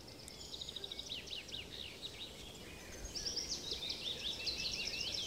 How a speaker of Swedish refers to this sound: Ja, det är så många röster. Och som tur är så har jag ju med mig Emådalens naturskyddsförenings ordförande … som kan bena ut vad det är för olika fåglar som låter.